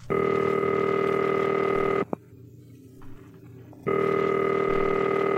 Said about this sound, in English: Oh, she's making a phone call.